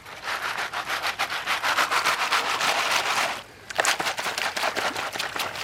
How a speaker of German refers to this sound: Hinter einem großen Stein schaufelt er Sand, Kies und Schotter in das Sieb. Die großen Steine sortiert er gleich aus. Dann hält er das Sieb ins Wasser, gibt die Pfanne darunter und schüttelt.